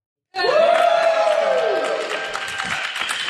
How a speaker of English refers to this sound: That's see how the townsfolk like cheer for us? This is great.